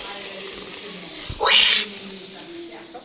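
A huge anaconda in a reptile house hisses as it passes, its breathy hiss swelling up sharply for about half a second, then fading back into a steady, airy background noise. No one speaks.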